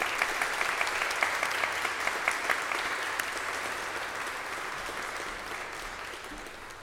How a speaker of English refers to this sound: That concludes our list. Let's recognize all our graduates with a hand of applause.